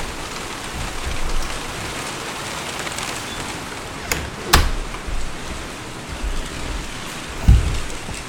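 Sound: rain falling outside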